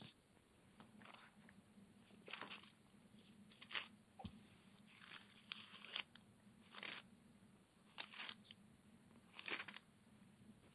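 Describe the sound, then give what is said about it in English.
Soft, papery rustles of Bible pages being turned as people look up a verse, coming in irregular bursts, about ten over several seconds, faint against a steady low hum, with no one speaking. “I hear pages turning.”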